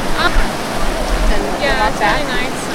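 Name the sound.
river water flowing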